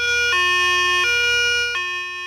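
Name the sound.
police car siren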